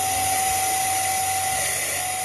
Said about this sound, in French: Vous entendez le bruit de l'un de ces respirateurs qui fonctionne avec des batteries de scooter.